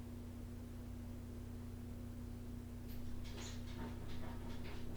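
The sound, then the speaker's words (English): A dog, apparently wanting to be let into the house, whines faintly in a few short, high-pitched bursts toward the end, over a steady electrical hum and background hiss, with no talking. “Sounds like the dog wants to come in the house.”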